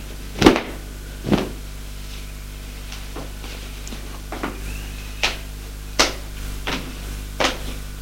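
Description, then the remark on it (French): A wardrobe door opens with a couple of sharp wooden clunks, then a series of softer knocks and clicks as it is handled and a pyjama is taken out, over a faint steady hum with no voices. “La porte de l'armoire, en sort un pyjama.”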